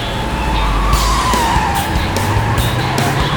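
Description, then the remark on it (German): A truck loaded with snow skids after one of its tires bursts with a loud bang: a loud, sustained tire squeal over a rumbling engine, the screech wavering in pitch while sharp bursts of noise punctuate it. No one speaks. “Einer der Reifen war geplatzt und brachte den ganzen Wagen ins Schleudern.”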